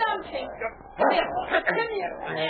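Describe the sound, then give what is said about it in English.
A dog named King barks and yips in a quick run of sharp bursts as he leaps at and charges two men by a house, with agitated voices talking over the commotion. “Get the dog off. Call him back.”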